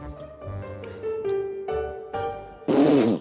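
A loud, raspy fart bursts out near the end, short, following a few seconds of low, droning tonal sounds with no talking, inside a tent at night.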